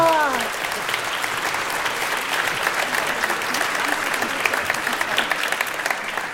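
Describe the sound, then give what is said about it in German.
Steady audience applause, a dense crackle of many hands clapping at an even volume for several seconds, opening with a brief voiced tone that fades as the clapping takes over. “Super, ein Applaus.”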